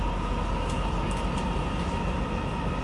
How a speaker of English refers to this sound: Next stop, Rathenauplatz. Change here for line 3 trains to Friedrich-Ebert-Platz. This is a line 2 train to airport.